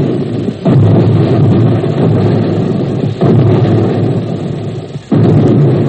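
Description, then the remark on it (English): Three heavy, muffled underwater depth charge explosions, each a deep low boom that swells into a long rolling rumble, arriving a couple of seconds apart with no voices. “And you hear the depth charges.”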